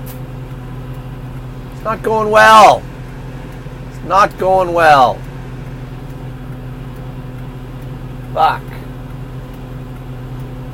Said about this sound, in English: But yeah, we're in traffic. Traffic caused by train crossing.